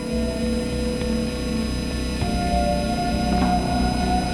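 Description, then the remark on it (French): A tram that crosses a ghetto and connects it to the rest of the city rolls steadily past, its low rumble paired with a humming motor whine and a few soft clacks from the rails, with no voices. “La faille, c'est un tramway qui traverse le ghetto et le connecte au reste de la ville.”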